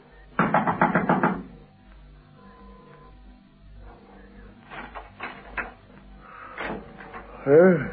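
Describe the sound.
A police lieutenant knocks on the door of a house in Nelson Street, Boysons, at 6:30 a.m.: a quick, loud burst of about half a dozen knocks, followed after a pause by people talking.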